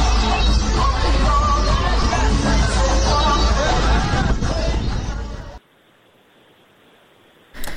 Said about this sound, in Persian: یک صدای دیگر هم بشنویم اگر وقت داریم، سر زمشان بزنیم، اونجا هم شلوغ بود. شادی مردم زنجان بعد از باخت تیم.